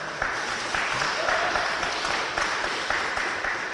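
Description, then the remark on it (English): A crowd on the uppermost floors of the old State House in downtown Hartford, Connecticut, claps steadily in a dense, continuous burst of many hands, holding at an even, fairly loud level with a few sharper spikes and no clear talking over it. “Clap if you think that we're getting screwed and having to pay for this war.”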